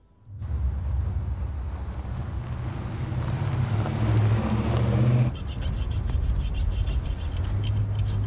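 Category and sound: vehicle, inside a moving car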